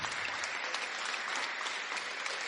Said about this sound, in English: Let's give Paul a round of applause. That was a fantastic. Thank you.